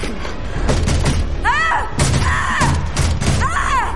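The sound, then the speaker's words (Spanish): Angie pounds her fists heavily on the closed door of an archive room in a series of irregular, booming thuds, mixed with swooping, wavering high tones that rise and fall between the blows. “Angie la golpea.”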